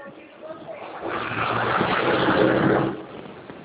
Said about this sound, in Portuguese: Tá vendo o caminhão fazendo barulho aí?